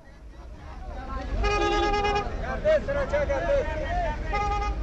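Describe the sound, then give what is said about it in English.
Busy din at Kabul's main bus station in Afghanistan, crowded with yellow taxis and white minibuses: vehicle horns honk loudly and repeatedly, with long sustained toots overlapping amid engine rumble and a murmur of crowd chatter in the background. “There's a sea of yellow taxis and white minibuses traveling from the capital to the eastern provinces of Khost, Pakti and Paktika.”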